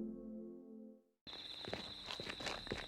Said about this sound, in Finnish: Mä oon siellä nyt. Mä oon pilkkopimeässä metsässä. Mä kiipeen metallisen verkkoaidan yli.